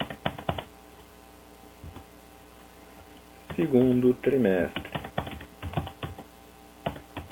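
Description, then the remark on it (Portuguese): Quick, clicky keystrokes on a computer keyboard come in short bursts as data is typed into columns, with the program suggesting content during typing, before and after a brief stretch of a man speaking. “Observem que, conforme eu vou digitando, ele vai sugerindo um conteúdo.”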